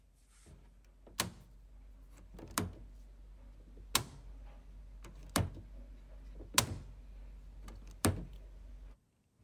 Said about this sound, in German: Tür auf und zu machen. Willst du es nochmal hören?